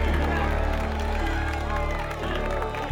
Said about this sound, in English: The crowd mingles.